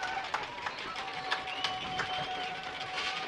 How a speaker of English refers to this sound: You hear the crowd start to stomp as Saxman gets ready for the second half kickoff.